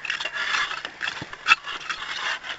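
Continuous gritty scraping and rasping as six people dig and scrape hard in the soil, with uneven strokes and one sharper scrape partway through. No one speaks.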